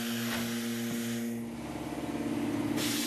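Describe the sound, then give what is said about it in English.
A vacuum line coming up through a bowl-shaped mold hisses steadily as it sucks a plastic record tight onto the mold, over a constant low motor hum; the airy rush grows brighter and louder in the final moments. “I turn on the vacuum, and the plastic is sucked tight, taking shape right onto the mold.”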